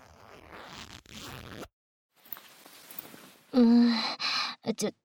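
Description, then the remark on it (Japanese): A trouser zipper is drawn down in two slow, raspy pulls with a brief pause between them, followed by short breathy vocal sounds. “ほら、ズボンのチャック、下ろすぞ。”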